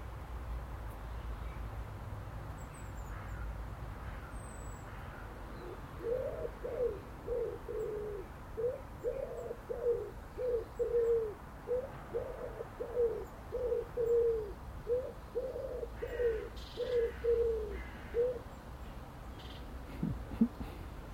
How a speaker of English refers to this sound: when I hear the wood pigeons, I listen for that stop and that beat. They always stop in that heartbeat, always. He's a, sitting atop the telegraph pole.